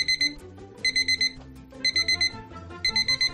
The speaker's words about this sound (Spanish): Cuando el despertador suena, te das cuenta de que todo vuelve a la normalidad.